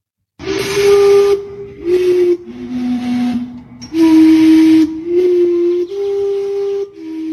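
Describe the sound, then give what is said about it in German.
A historic steam clock whistles a slow tune of sustained, breathy notes shifting in pitch, each blast loud with a strong steamy hiss, separated by brief gaps. “Es handelt sich um eine historische Dampfuhr”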